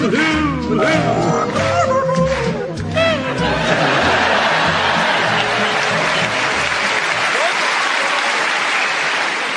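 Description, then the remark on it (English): A crowd of about 2001 people sings together raggedly and out of unison over a pulsing low beat for a few seconds, then bursts into loud, sustained applause that fills the rest. “Oh, the joy of hearing 2001 people make an absolute dog's breakfast.”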